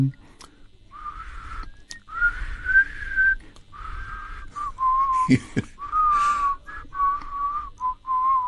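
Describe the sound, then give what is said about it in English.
A single person in a prison whistles the tune of The Red Flag, with clear sustained notes and short phrases rising and falling in a steady melodic line, plus a brief breathy thump midway. “I whistle the red flag.”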